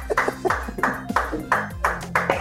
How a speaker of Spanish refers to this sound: Bueno, y volvimos después de este corte que ni se notó porque eran las 9 y estaban aplaudiendo la gente.